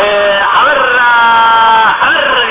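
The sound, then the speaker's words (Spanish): A crowd cheers and whoops loudly and continuously, many voices yelling together in a dense, sustained roar that barely dips across the short stretch. “Un aplauso para el Escaramancia.”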